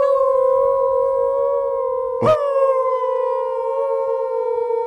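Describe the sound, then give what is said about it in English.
Several people howl together like wolves, voices imitating a long, steady, overlapping howl that holds for several seconds, loud, with a brief break partway through. “You want to lead a howl?”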